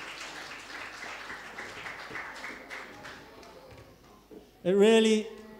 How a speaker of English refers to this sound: As the children go back, weren't they brilliant? We clap for them. Let's give them one more clap. They were so well behaved today.